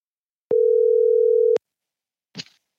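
A single steady electronic tone from a phone as a call is placed sounds for about a second, clear, followed after a short silence by a brief soft click or rustle. No one speaks.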